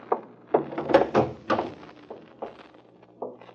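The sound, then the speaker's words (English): An apartment's back door from the kitchen, latched from the inside, is rattled and pushed against its latch, giving a series of irregular wooden thunks and knocks, moderately loud, with no voices. “Well, latch from the inside.”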